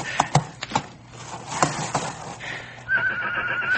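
A colt being whipped neighs and whinnies in shrill, wavering bursts, with sharp hoof clops and thuds scattered through the first half and a high, drawn-out whinny near the end.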